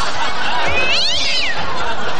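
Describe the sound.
A person imitates a cat's meow with a single drawn-out, rising-then-falling call in the middle, heard over a loud, steady wash of background noise.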